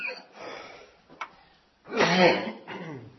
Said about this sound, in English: Pardon me, I'm trying to get all that out before I get up here. And believe it or not, I was hardly coughing all afternoon. And sure enough, when you stand up is when it returns.